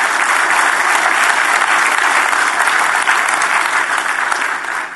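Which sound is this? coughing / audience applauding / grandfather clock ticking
audience applauding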